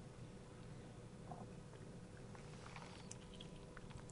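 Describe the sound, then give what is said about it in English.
Someone quietly sips Diet Coke, with faint crackling carbonation pops over a steady low background hum and no talking. “I'm sorry, I was sipping Diet Coke.”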